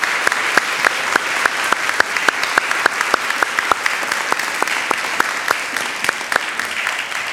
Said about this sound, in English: why don't we just start with a round of applause for our conference, because they actually did it.